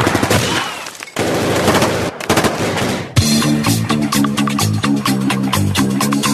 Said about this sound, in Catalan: Els agents van rodejar la casa i van encetar un tiroteig que va durar 4 hores i en el qual es van disparar més de 2.000 bales.